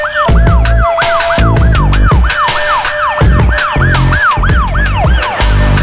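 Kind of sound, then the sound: vehicle, emergency vehicle sirens wailing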